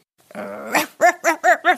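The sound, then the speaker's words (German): A person imitates their dog's bark, starting with a short low growl that rises, then four quick, evenly spaced barks, loud, with no other talking. “Mein Hund bellt so.”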